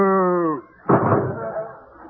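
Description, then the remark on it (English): A short, low cow moo glides slightly downward for about half a second, then breaks off. After a brief pause, a loud, noisy crash or slam follows and slowly fades. “Ask her. She's a cow.”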